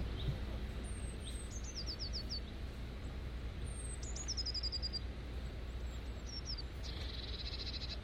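Garden birds sing in a few short phrases, each a bright high whistle followed by a quick descending trill, repeated three times over a steady low outdoor rumble; no one speaks.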